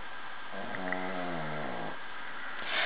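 A female dog snores once, a drawn-out, buzzing, slightly whiny breath lasting about a second, fairly quiet against a steady background hiss. No one speaks.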